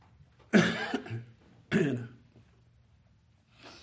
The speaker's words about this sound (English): I apologize for the coughing, but you know, sometimes your throat says cough, you just have to cough. I'm sorry. I don't have the willpower not to do it.